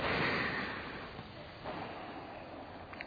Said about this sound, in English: But it's interesting that when you study and read about breathing, most people don't breathe correctly. I want everybody to take a real deep breath. Ready? Go.